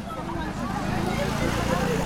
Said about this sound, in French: Derrière le vacarme des voitures et des motos qui déambulent dans l'ancienne médina de Casablanca, en tendant l'oreille, on entend le cri des enfants.